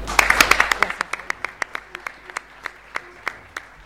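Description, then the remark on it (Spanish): An audience applauds to bid farewell to the government secretary before the opening of the 2012 Mercosur Youth Parliament council session, with a burst of dense clapping that quickly thins out into a slow, scattered series of single claps before fading away. “Así que, bueno, antes de dar comienzo a la sesión, le vamos a agradecer sus palabras y con un fuerte aplauso lo vamos a despedir.”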